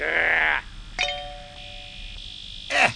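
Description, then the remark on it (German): A single bright bluebell chime, a station interval signal, strikes and rings out with a clear, sustained tone for over a second, framed by brief bits of speech before and after. “Nach dem Glockenblumenzeichen melden wir uns mit einem interessanten Sendebeitrag aus dem Uhuheim.”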